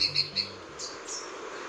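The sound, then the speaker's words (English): Santa Marta saberwing hummingbird calls, a very rare emerald hummingbird species native to the mountains of Colombia: a quick run of three thin, high chirps, then a couple of softer, slightly longer high notes over a faint steady background hiss. “The Santa Marta saberwing is a hummingbird species so rare, they've only been documented twice in recent years.”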